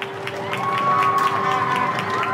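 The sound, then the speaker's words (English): In a street in Hoxton, East London, a crowd claps at 8 pm on a Thursday for coronavirus frontline medical workers. The claps overlap into a dense patter, with a sustained whistle and some whooping cheers rising over the applause. “Whether you were on your front step, hanging out of a window, or out in your garden, at 20:00 last Thursday, you probably heard the sound of applause, plus a bit of whistling and whooping.”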